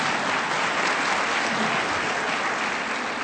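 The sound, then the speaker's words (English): An audience claps steadily for a few seconds, a dense, even wash of many hands at constant loudness with no voices standing out. “Who can clap for that?”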